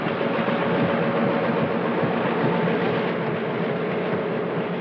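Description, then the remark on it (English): A train rumbles steadily along the tracks as it approaches a tiny depot, a dense, continuous roar holding the same loudness throughout, with no voices over it. “The train approaches down the tracks.”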